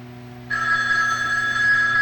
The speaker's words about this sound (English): I'll get the phone.